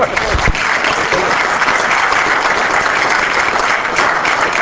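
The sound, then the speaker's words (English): A crowd claps steadily and loudly, a dense, even wash of applause that holds its level for several seconds without a break. “I've got almost as many rounds of applause as Bush did tonight, right?”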